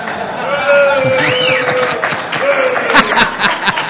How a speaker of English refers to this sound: I'm with the two guys that clapped.